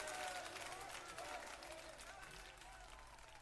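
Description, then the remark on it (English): A church audience claps and stomps their feet while praising the Lord, hands raised, in a loud, busy burst of noise, with voices calling out over the racket as it gradually fades. “Well, that was some foot stomping, hand raising.”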